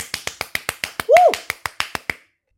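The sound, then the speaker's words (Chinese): A quick, steady run of about a dozen hand claps over two seconds, with a short voiced exclamation rising and falling midway through; a person clapping to praise a listener for being brave about getting an injection. “不过现在铃铛姐姐离我有点远，她在工作，我来帮你拍手”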